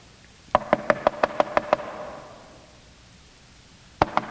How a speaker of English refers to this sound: someone's knocking at the door. Yeah, I can hear. You're knocking at the door.